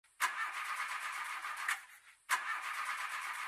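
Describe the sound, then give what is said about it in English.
A new car's engine cranks and catches with a sharp burst, runs briefly, then dies and is started again, ending in a steady mid-pitched running sound. No voices are heard. “I'm in my car. Oh. I have a new car.”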